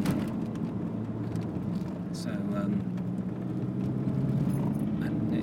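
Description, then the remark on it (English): A car, with a slightly larger engine than a Qashqai, pulling away from a standstill, with a steady, heavy low engine rumble and road drone that holds at an even loudness throughout, plus faint scattered higher clicks. “It does pull off well, actually, pulling off from a standstill.”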